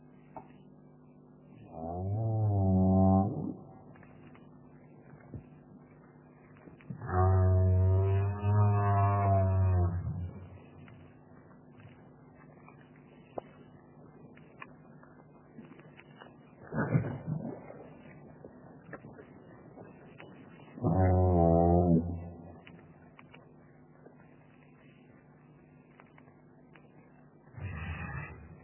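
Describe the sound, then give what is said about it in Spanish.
Four low, moaning calls of a right whale with harmonic overtones, some rising or wavering in pitch, recur at uneven intervals over a steady low rumble of background noise, with no voices present. “Estos sonidos ballena franca, no tiene cuerdas vocales, otra cuestión interesante, ¿cómo hacer sonido?”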